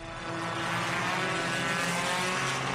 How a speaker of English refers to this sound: It's incredibly boring just watching the cars go around and around the track, and I can hardly breathe because of all the smoke and fumes.